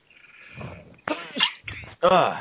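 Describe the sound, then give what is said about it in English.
A sharp sneeze bursts out after a breathy, wavering buildup, followed by a couple of short explosive huffs, all loud, with no talking. “Excuse me, I got a sneeze.”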